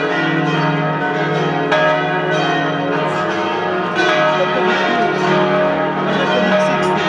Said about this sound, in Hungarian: Látszanak a harangok, a harangtorony nyitott, billegnek a harangok. Minden ütésnél megjelenik az ablakba a harang, lendületben van.